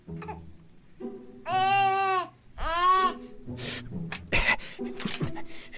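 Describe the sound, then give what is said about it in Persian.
A baby cries in two loud, drawn-out wails, each lasting under a second, surrounded by softer fussy babbling and whimpering noises. “گریه نکن وگرنه میخورمت.”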